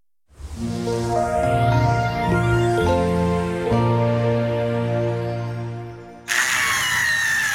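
A power drill whines steadily for several seconds, its motor pitch shifting slightly, then cuts to a harsher, grinding burst as the bit bites into something. Loud, with no talking.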